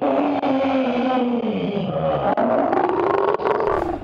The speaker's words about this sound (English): The monster saw its opening, let loose a digital roar.